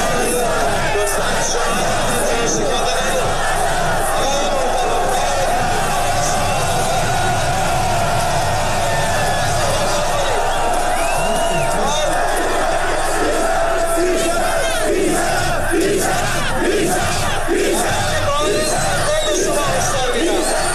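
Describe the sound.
A large crowd of protesters in Iran shouts and chants slogans against government officials in loud unison, shouting "bi sharaf" (dishonorable) at a police commander, voices rising and falling in repeated bursts over a constant roar of mixed yelling and babble.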